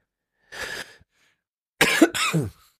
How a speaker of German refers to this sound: Hast du deinen Hustenanfall? Ja, ich habe mir jetzt auch ein Zitronenmelissen Bonbon verabreicht, weil das mit dem Husten ist echt schlimm.